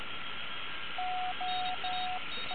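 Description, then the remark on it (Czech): An amateur radio transmission from station OH3KRB, in contact with OH2EUZ, heard on a shortwave receiver: steady hiss and a faint constant whine, then a run of long, clear, mid-pitched Morse-like beeps, three full dashes and a fourth beginning; the signal is fully readable. “Takže každý může uznat, tak ta slyšitelnost je bezvadná. Je to 100% vratelný, i když pochopitelně ta Pixina nějak neřve.”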